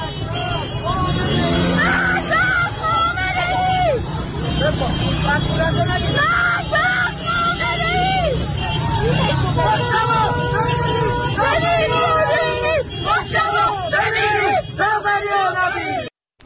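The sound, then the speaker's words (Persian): A large protest crowd shouts and chants in rhythmic bursts, loud, on a Tehran highway in Iran blocked by stopped cars on Thursday night, where banners of Ali Khamenei are burned amid the slogan 'Death to Khamenei', over a steady rumble of idling traffic and general hubbub that continues throughout. “در ویدیوهای منتشر شده یکی از اتوبان‌های تهران شبانگاه پنجشنبه با توقف خودروها بسته شده، بنرهای علی خامنه‌ای همراه با شمار مرگ بر خامنه‌ای به آتش کشیده شده است.”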